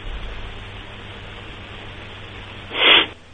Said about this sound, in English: All right, you got the sniffles, my friend.